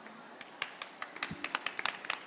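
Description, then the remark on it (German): Scattered applause from a small audience after a reading of a children's book, with irregular handclaps that thicken slightly toward the end. Fairly quiet, with no voices over it. “Dankeschön für den Applaus.”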